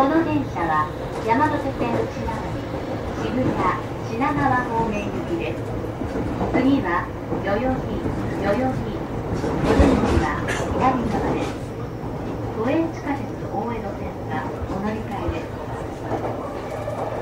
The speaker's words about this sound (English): This is the Yamanote Line train bound for Shibuya and Shinagawa. The next station is Yoyogi. The doors on the left side will open.